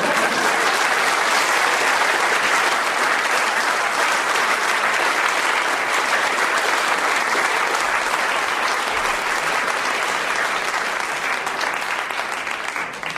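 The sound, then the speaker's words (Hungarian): Loud, sustained applause from an audience, a dense wash of many hands clapping steadily for about thirteen seconds before starting to thin at the very end. “Na most esetek egy nagy tapsolni.”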